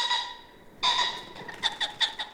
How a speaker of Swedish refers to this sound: Fasanen sträckte på halsen och gav upp ett gällt och sprucket skrän. Det lät som en tupp som hade fastnat med huvudet i en plåtburk.